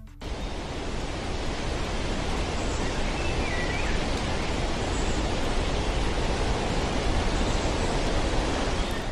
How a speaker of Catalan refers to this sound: Efectivament, es tracta dels clàssics sons que associem amb la naturalesa, però més concretament són els sons dels ocells i del vent contra els arbres.